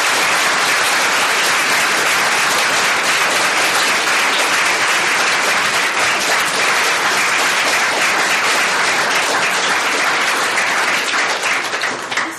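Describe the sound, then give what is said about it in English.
An audience breaks into sustained, loud applause for six speakers at the end of a panel event, a dense wash of many hands clapping that holds steady for about twelve seconds before starting to taper at the very end. “So if we'd like to, a round of applause for our 6 speakers.”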